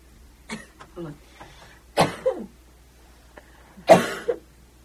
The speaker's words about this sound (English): I just had to get that out. That happens to me sometimes, too. I was trying to suppress the sneeze. It's better to not have it. Okay, I'm better.